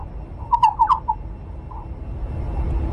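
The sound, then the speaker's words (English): A quick burst of faint, clicky chirps from an Indiana bat's song, unprocessed, about half a dozen in rapid succession, followed by one softer chirp and then a low background hiss. “The melody that they're singing is almost like bird song. It's just out of the range of our hearing.”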